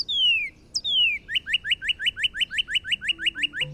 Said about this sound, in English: she knows to look for her mom's favorite bird. The Northern Cardinal.